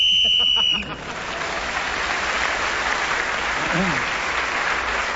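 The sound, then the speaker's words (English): A shrill, steady whistle is blown on a panel game show as Clement Freud is speaking, sounding for just under a second over a brief bit of speech, then gives way to a long wash of audience applause. “Right, Clement Freud speaking as the whistle went, gained that extra point, and he has moved forward.”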